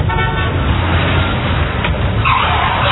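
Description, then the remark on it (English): A car roars loudly with a short horn toot at the start, then a brief tire screech as it skids past a pedestrian, all over steady road noise. “Hey, you could have been killed by that car.”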